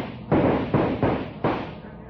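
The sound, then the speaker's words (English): Four loud gunshots ring out in quick, uneven succession, each a sharp, booming crack that trails off into a rumbling decay before the next shot lands, fired by men as they rush through the door at the top of the stairs into a room. “Roy, Dale, and Jonah run forward, firing as they go.”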